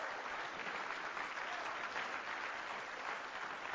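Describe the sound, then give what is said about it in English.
An audience in a church claps hands together in praise of the Lord: a dense, steady wash of applause that holds at an even, loud level for the whole stretch, with no voices standing out. “Let's give the Lord a hand clap of praise in his house.”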